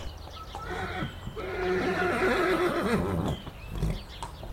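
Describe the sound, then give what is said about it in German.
A horse neighs loudly, a long wavering whinny that rises and trembles for a couple of seconds before trailing off, with faint background noise around it. “Rund um das Schloss hat es Pferd. 10 weisse Pferd.”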